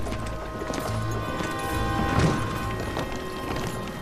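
Horse hooves clatter over a wooden bridge in a steady run of hollow clip-clop beats, with a thicker thump near the middle amid a constant rumbling background.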